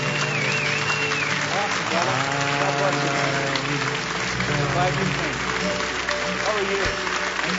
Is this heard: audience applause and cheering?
yes